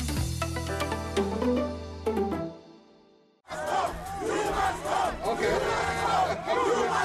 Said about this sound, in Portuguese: O som que se ouve retrata o momento em que o presidente sul-africano Cyril Ramaphosa foi vaiado pela classe média quando se preparava para proferir um discurso nas comemorações do Dia Mundial dos Trabalhadores.